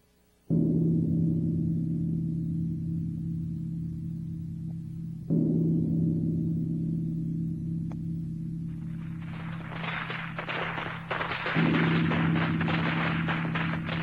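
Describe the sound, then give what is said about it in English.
Fireworks go off outside a window at New Year in three loud, deep booms spaced several seconds apart. Each leaves a long, low rumbling tail, and a bright crackling burst of sparks arrives shortly before the last one. “Outside the window, fireworks exploded.”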